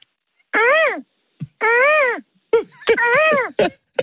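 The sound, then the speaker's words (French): A caller on a phone line imitates a seagull with shrill, nasal cries: two sustained wailing calls with a rising-then-falling pitch, followed by a choppier burst of squawks broken by breathy gasps. “Alors, je vais commencer avec la mouette.”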